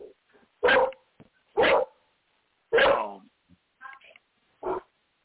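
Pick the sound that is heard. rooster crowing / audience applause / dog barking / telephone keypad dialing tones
dog barking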